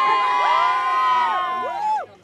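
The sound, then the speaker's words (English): A large crowd of activists on the lawn of the Supreme Court cheers and celebrates outside as people get news of the court's ruling, with many voices shouting and whooping at once in a loud, continuous, high-pitched roar that fades slightly at the very end. “So you hear cheers there and celebration.”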